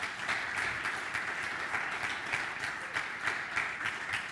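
Steady applause from a crowd, a dense patter of many hands clapping at once, holding an even level throughout with slight rhythmic surges and no voices on top.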